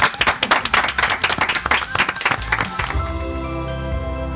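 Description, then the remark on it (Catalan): A small group applauds with dense, rapid clapping for about three seconds for the guests of the Cat Ràdio programme L'Ofici d'Educar, then the clapping stops abruptly and a sustained musical tone carries on. “Un aplaudiment per tots.”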